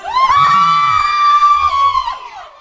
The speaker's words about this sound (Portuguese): É o seguinte, galera, estamos gravando ao vivo aqui, eu quero ouvir o grito das mulheres apaixonadas.